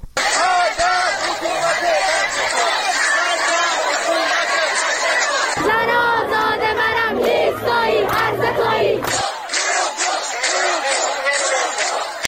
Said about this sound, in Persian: ویدیوهای منتشر شده در شبکه‌های اجتماعی نشان می‌دهد که ماموران حکومتی با شلیک گاز اشک‌آور به این تجمع یورش بردند و معترضان آسیب دیده با مقاومت در برابر این یورش شعار بی‌شرف سر دادند.